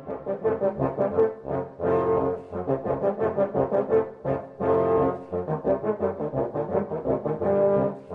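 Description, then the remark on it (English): Douglas Yeo plays all 26 parts of a serpent ensemble, S-shaped carved wind instruments with finger holes and no keys; their low, buzzy, horn-like tones stack into rich sustained chords with rhythmic phrasing and swelling, steady loudness, with no voices. “He plays all 26 serpent parts you're hearing right now.”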